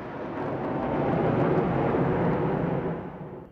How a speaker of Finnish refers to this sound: voiton päiväparaatin sijasta saavat moskovalaiset tyytyä hävittäjien ylilentoon.